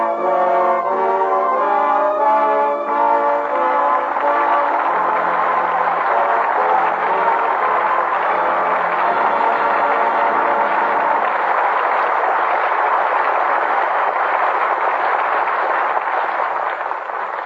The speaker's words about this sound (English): With that well-deserved applause, our thanks to Jimmy Stewart and Joan Blondell, who come to the footlights for their curtain call.